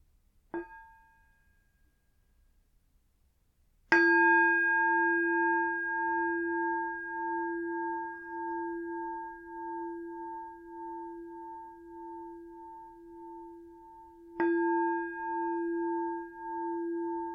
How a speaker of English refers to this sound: I'm going to start with three sounds of the bell and the usual settling in introduction.